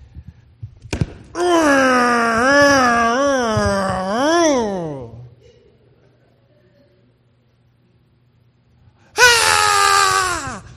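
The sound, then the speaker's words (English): A person lets out a loud, drawn-out frustrated wail with a wavering, sobbing pitch for several seconds, falls quiet, then launches into a second loud wail near the end. “That's what I wanted to do. I wanted to scream, no!”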